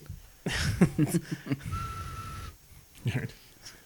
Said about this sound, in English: Well, I think my nose whistled again.